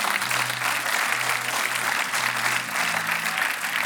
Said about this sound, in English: Jesus, the reason we're clapping and behaving like this, you think, what is this? You've never been in a place like this. It's because Jesus has done something for our life.